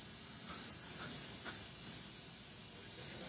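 air conditioner hum

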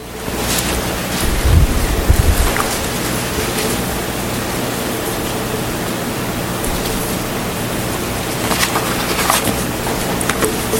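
wind blowing outdoors

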